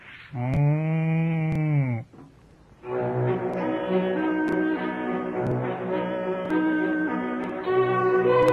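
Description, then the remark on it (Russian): A cow, Burenka, moos loudly: one steady low moo lasting about a second and a half, then after a short pause a long, drawn-out, wavering moo that carries on to the end. “Тебе, Буренка, за интересную беседу.”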